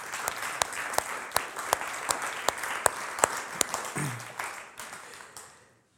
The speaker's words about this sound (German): Ja, genau, dürfen ruhig klatschen.